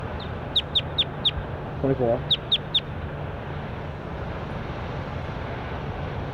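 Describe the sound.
A bird gives two bursts of sharp, high chirps, four quick notes then three more, over a steady low hum, with a person briefly speaking between them.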